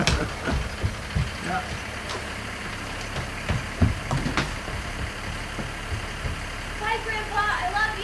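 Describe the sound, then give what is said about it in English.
A bus engine rumbles low and steady outside, idling with a few clunks and knocks, while faint, indistinct voices murmur. “And I hear somebody's bus.”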